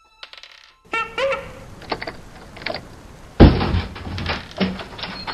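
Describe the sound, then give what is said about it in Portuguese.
A wooden door at the entrance of a building creaks open with a short, strained groan, followed by a few clunks and a heavy thud as it swings against something, with no voices. “Tu abre a porta e o corredor ali dentro é de concreto.”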